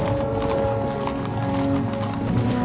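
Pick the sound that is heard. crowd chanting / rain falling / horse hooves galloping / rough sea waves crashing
horse hooves galloping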